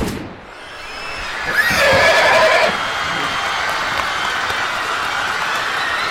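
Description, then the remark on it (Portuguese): A cavalry horse, frightened by a soldier's rifle shot, lets out one loud, shrill whinny partway through, rising above a constant, dense roar of crowd noise and commotion outside the United States Embassy that continues after it fades. “A cavalaria chegou, mas um soldado do exército disparou um tiro de fuzil que assustou os cavalos e criou um cenário de caos absoluto.”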